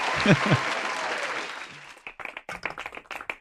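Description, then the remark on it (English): Loud, dense applause fills the first two seconds with a brief voiced whoop near the start, then thins into a run of separate, sharp hand claps in an uneven rhythm. “Let me get a little clap action here.”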